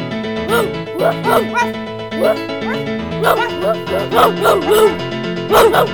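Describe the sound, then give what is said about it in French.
A person imitates a dog with a series of short, voiced barks and yips, repeated in irregular bursts, fairly loud. “C'est quelqu'un qui fait des bruits de chien.”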